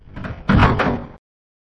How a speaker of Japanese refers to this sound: 研究所の奥の奥にある部屋の前には二つの影があった。それは二人の少女の影。二人のうち年下らしい少女がゆっくりとドアを開けた。